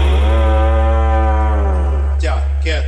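A cow lets out one long, loud moo that holds steady for about two seconds and sinks slightly in pitch, followed by two short, breathy snorts.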